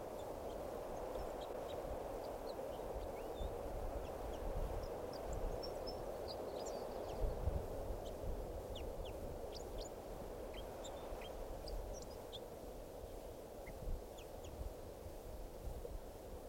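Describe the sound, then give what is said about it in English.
About two wild birds sing, scattered high, thin chirps and short song phrases coming and going throughout, fairly faint against a steady, loud low rumble of background noise. No one speaks. “Recording a song with one of the birds.”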